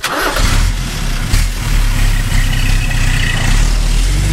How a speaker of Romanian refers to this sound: Securiștii au plecat cu mașina spre Sucevița